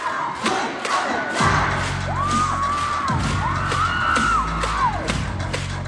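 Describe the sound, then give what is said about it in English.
A large crowd of excited fans in Korea cheers and screams continuously, with high rising and falling shrieks sweeping over a dense roar and low rumbling thumps underneath. “Masks are still required, but the screaming ban has been lifted. And so cheering is back in Korea.”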